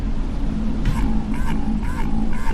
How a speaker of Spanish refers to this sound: Distinto. Son como graznidos, ¿no? Sí, parece un pájaro más que una ballena. Sí, sí. De hecho, lo han llamado pato al mensaje.